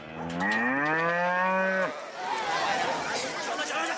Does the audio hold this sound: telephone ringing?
no